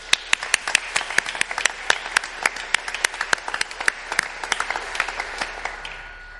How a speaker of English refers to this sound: So why don't we get the round of applause out of the way, and then we'll let them say what they're going to be doing, and I'll pray for them.